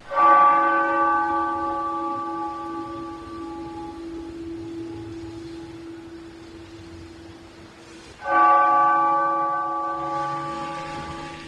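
A deep church bell in Newtown, Connecticut tolls twice in the morning, part of 26 bells tolled one year after the Sandy Hook Elementary School shootings, one for each life lost. Each strike rings with rich harmonic overtones that slowly decay, the second stroke coming about eight seconds after the first. No voices.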